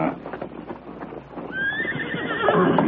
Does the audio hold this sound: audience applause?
no